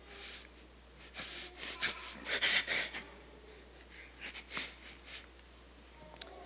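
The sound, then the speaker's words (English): A faint sneeze amid a series of breathy, snorting bursts and sniffs, with a stronger cluster in the middle and a few quieter puffs afterward; no one speaks. “Bless you.”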